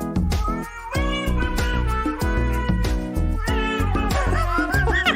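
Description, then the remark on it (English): A female cat meows in long, gliding, tuneful cries with reverb on her voice, as if singing along to loud, rhythmic backing music with a steady beat; no talking. “Dude, that cat slays. Oh, so good. And I will admit, she sings way better than that … lady.”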